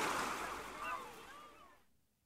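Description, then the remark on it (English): Waves wash steadily onto a beach in a broad, hissing roar that swells slightly midway, then fades away to near silence at the end. “Come on, Jack. The sea is really warm.”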